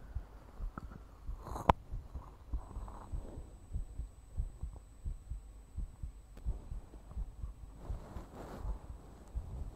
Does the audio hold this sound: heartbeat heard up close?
yes